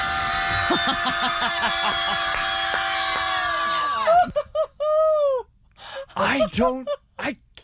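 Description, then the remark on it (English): A group of people in a screaming yoga class scream together in a long, sustained chorus for about four seconds, then several shorter, separate screams and yelps follow, loud. “Our friend … at Deco Drive Miami introduces us to something called screaming yoga.”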